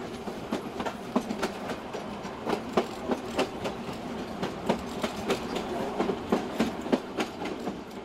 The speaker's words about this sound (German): Rumpelnd und ruckelnd fährt die Bahn durch die Vororte in Richtung Norden.